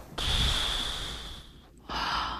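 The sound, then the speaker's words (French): A voice imitates scuba regulator breathing: a long, hissing inhale with a thin whistling tone, a brief pause, then a rougher, noisy exhale. No words are spoken. “Hein, quand on plonge, vous avez le bruit du détendeur, hein, ça fait...”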